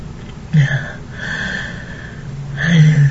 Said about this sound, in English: And when you remove your finger, I take a breath as you slowly start to push the jeweled metal plug into me.